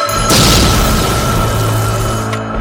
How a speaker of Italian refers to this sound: Ci sono state esplosioni nel pomeriggio a Milano e a Roma. La più grave è avvenuta a Milano, nel salone centrale della sede della Banca Nazionale dell'Agricoltura. Per lo scoppio, 14 persone sono morte.